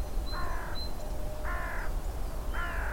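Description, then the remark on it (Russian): A crow caws three times in an even rhythm, each harsh call lasting about half a second, moderately loud against a low, steady background rumble. No one speaks. “Это мое! Заволновалась ворона.”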